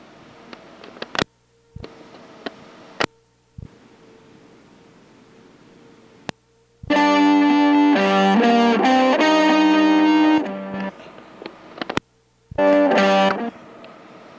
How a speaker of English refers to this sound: Insert three echoes.